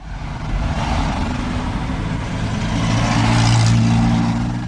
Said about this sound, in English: It's an understatement to say that Baghdad is a congested city. Every street is jam-packed with cars, most of them from the 1980s and earlier.